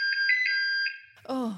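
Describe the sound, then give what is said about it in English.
A Sidekick phone ringtone: a bright, steady electronic tone with quick rhythmic pulses for under a second, fading out before a voice starts talking. “Is it a sidekick phone?”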